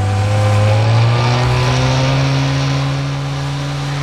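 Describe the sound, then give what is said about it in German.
A loud, steady motorboat engine roars at high revs as the boat races out to sea, its droning hum holding constant, easing slightly toward the end. No voices are heard. “stiegen dann in ein Motorboot um und rasten aufs Meer hinaus.”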